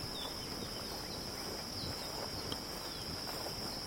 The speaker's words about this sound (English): So you got the birds, the wind, the gravel. It's probably the wind, it's probably the ocean, actually. Really nice.